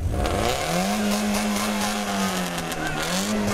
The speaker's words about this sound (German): sind also in Luna gestiegen, den alten VW T3 Bulli, haben 850 Euro Startgeld gelatzt und sind vom Hamburger Fischmarkt losgefahren